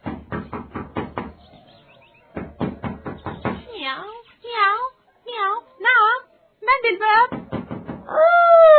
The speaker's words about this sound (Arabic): ولما دخلت البيت وشاهدت صغارها فرحت بهم، لكنها بعد قليل سمعت طرقا على الباب.